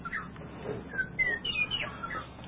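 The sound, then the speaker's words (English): A small bird chirps in a series of short, high whistled notes, fairly quiet, over a low background hum with no talking. “I guess we got to hear from our little bird.”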